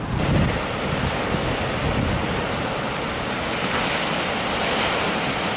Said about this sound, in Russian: Посмотри, как красиво здесь волны бьются от берег. Давайте, друзья, мы с вами подойдем, посмотрим.